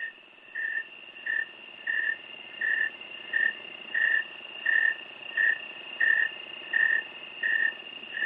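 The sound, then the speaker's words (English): A snowy tree cricket, also called the thermometer cricket, chirps in a steady, even rhythm, about one and a half chirps per second, over a constant high insect drone. No voices. “Yeah, that's the snowy tree cricket.”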